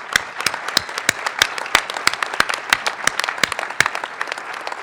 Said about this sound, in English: What a wonderful conference this has been. Let's just take 1 second again and give a round of applause to all these presenters.